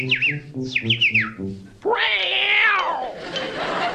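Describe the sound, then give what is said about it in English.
A living man-eating creature gives a few quick, warbling chirps, then lets out one long, loud, rising-and-falling yowl that sounds almost like a cat's cry, fading into a hiss. “Chirp for the people.”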